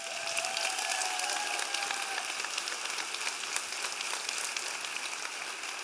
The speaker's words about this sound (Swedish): Han är ju här som vanligt, min kära far. Så pappa, ställ dig upp, ta emot en liten applåd.